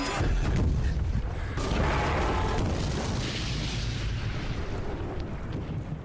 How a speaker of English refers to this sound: Well, all the scenes don't end with explosions in the Hurt Locker, but it is the big movie this weekend